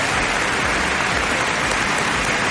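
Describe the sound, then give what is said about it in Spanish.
A large basketball crowd in Córdoba, Spain, gives the players of the Ukrainian national basketball team a sustained, loud farewell ovation with shouts of bravo. Dense clapping forms a steady roar that fills the whole stretch without pause. “Una ovación cerrada, gritos de bravo.”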